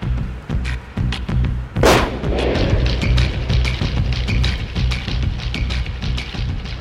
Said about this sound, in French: Quinze secondes plus tard, c'est le carnage. Les hommes lancent une grenade et tirent à vue sur les clients ainsi que sur le personnel du restaurant, à l'arme automatique.